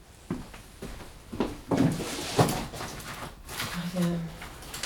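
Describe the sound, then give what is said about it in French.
A drawer slides open, followed by scattered clunks and a stretch of rustling as papers such as tax, rent and bank documents are shuffled through, with a brief murmuring voice near the end. “Dans le tiroir là, non?”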